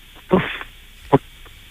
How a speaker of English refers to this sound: Was that breathing? That was a whoosh. I do not prefer whooshes.